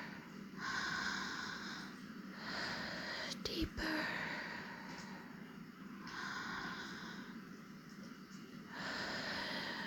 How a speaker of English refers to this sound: Let the sound of my breathing take you deeper.